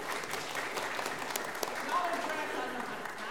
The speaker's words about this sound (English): So so thank you. Thank you, RAs. Let's have a round of applause for our RAs.